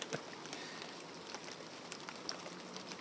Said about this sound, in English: I'm sheltering here below the overhang of my garden shed out of the rain, keeping me, my tea and my iPhone dry.